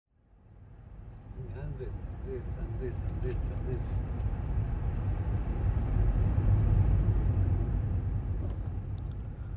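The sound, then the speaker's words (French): Steady low engine rumble from inside a car in Howara, driving toward the neighbouring village of Beïta, swelling after the first seconds and holding loud, with brief muffled voices audible near the start. “je monte dans la voiture de …”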